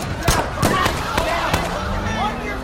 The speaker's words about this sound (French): L'embrouille monte alors d'un cran quand des coups de feu retentissent sur le parking.